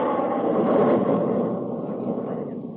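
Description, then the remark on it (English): A jet aircraft engine roars loudly and steadily for a few seconds, a dense rushing rumble that eases slightly toward the end, with no voices. “Listen. Listen to the sound of the jet age.”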